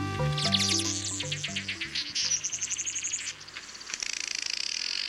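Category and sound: bird, weaver bird calls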